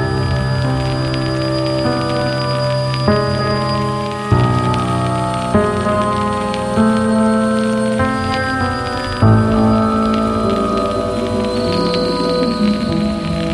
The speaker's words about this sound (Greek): Ένα βροχερό απόγευμα.